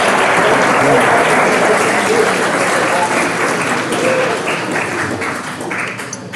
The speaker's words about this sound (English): So you guys are great. Why don't you give yourselves a round of applause? There you go.